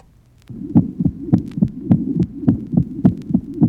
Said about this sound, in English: In the next, there is a much less loud, squeaky systolic murmur.